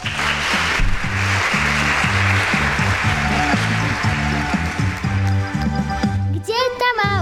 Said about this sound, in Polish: Może jakieś takie brawa na zachętę.